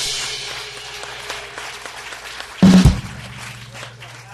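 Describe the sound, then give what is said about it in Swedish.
An audience on the roof of Kulturhuset in Stockholm claps for the evening's talk show host in a dense, steady wash of applause, briefly swelling louder with a sharp burst about two-thirds through before settling back. “Mina damer och herrar, från hjärtat av Stockholm, välkomna till Kulturhusets tak och ge en applåd för kvällens värd.”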